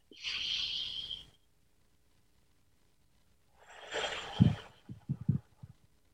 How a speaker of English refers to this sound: So 3 deep breaths. Always like that, you know, need a little extra one. First breath, just pay attention to your breathing.